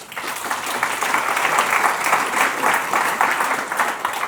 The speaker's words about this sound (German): Und dieser Applaus gilt dann auch gleichzeitig an die Mitglieder dieses Redaktionsteams, dass sie diese Aufgabe übernehmen.